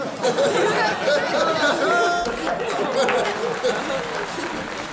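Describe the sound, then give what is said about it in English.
A laugh track with applause plays. A crowd of many voices chatters and laughs together with scattered clapping mixed in, a dense, continuous wash of audience noise lasting the whole stretch at a fairly loud, steady level. “play us a laugh track with like applause.”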